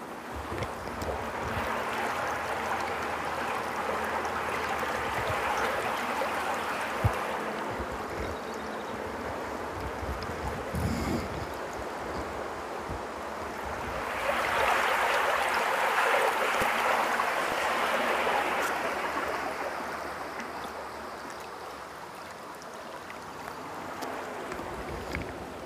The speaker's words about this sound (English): Okay, so this is going to be fairly fast moving. It's actually the water coming through the culvert. So it's the downstream side of the culvert.